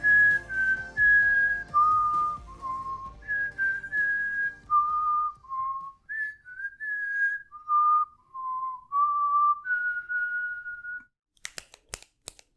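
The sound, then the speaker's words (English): A person whistles a lilting melody, the theme tune of a 1993 film, in clear sustained notes that rise and fall for about eleven seconds, ending with a few sharp clicks. “I've been whistling this music all week long because I am so excited to talk about one of my favorite films of all time.”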